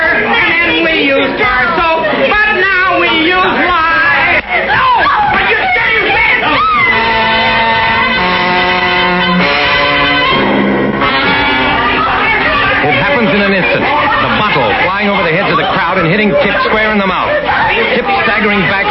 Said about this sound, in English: The whole crowd surging and muttering like an angry tide. Fists flying, brickbats, clubs, blackjacks coming out of concealment.